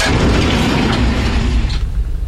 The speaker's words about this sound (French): Porte de la chambre enfoncée à coups de pied.